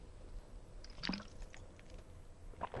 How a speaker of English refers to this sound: So I'm going to exit this and take a quick swig of water.